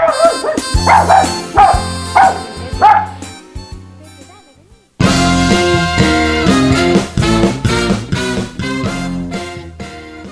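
small dog barking

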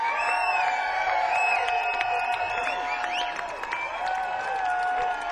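crowd applause and cheering

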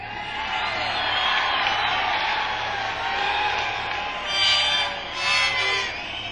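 audience yelling and cheering

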